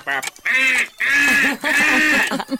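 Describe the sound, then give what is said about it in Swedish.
A voice imitates the beeps of three different alarm clocks: three loud, nasal, sustained tones in quick succession, followed by a short fragment of another sound. “ge mig tre olika veckarklockors ljud.”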